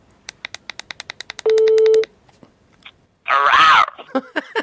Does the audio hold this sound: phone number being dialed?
yes